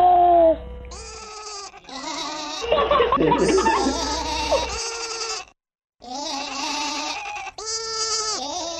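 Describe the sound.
A voice imitates a sheep, letting out a series of drawn-out, wavering bleats, close and fairly loud, with a brief pause before the last few.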